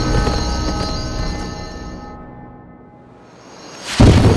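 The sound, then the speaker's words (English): A rocket hisses as it ascends into the sky: a steady, rushing hiss with faint ringing tones fades over a few seconds, then bursts back loudly near the end. No voices are present. “Even as he heard the hiss of the rocket's ascent, Matt slapped his legs against Spirit's side and started down the trail to the valley floor below.”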